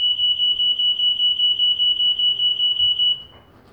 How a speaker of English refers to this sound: now that's a noise I haven't heard before. Must need a battery or something. That's not the door alarm. That's different. It's fire alarm, smoke alarm.